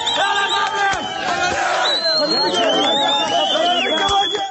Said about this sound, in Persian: اینجا مریوان و فریاد شعار مشهور اعتراضات سراسری. زن زندگی آزادی که حالا روز و شب در خیابان‌های ایران تنین انداز می‌شود.